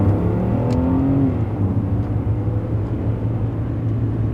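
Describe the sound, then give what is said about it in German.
A car engine runs steadily, its low rumble shifting in pitch briefly as the car stops and turns around, then continuing at an even drone as it drives back the way it came. “Und als ob sie der Geschichte eine Wendung geben wollte, stoppte sie ihren Wagen, drehte und fuhr den Weg zurück, den sie gekommen waren.”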